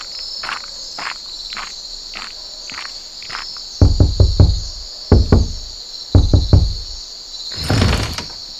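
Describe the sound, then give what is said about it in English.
Loud knocking on a door late at night in three quick bursts of three or four raps, preceded by faint tapping, over a steady chorus of crickets chirping, then a brief scraping sound. “"Why are you knocking at my door at this late hour?"”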